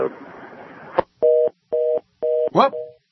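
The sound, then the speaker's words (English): A dropped cell phone call with a governor calling from his car: a second of hissy line noise ends in a sharp click, followed by three evenly spaced, steady electronic beeps and a brief warbling tone. “We just lost the governor. He's on his in his car on his cell phone.”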